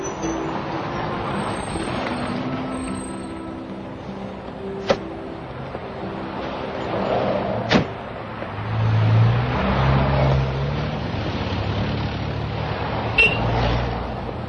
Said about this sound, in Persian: بعد تاکسی سوار میشه و میره خونه پروانه. میرسه دم در خونه و از ماشین پیاده میشه و میره زنگ در رو میزنه.